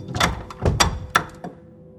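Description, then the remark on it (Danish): Several knocks on an unlocked door, about four or five fairly loud thumps in an uneven rhythm, the last one softer, with no voices. “I kommer op til døren. Den er ikke låst. Banker på. Vi banker på, ja.”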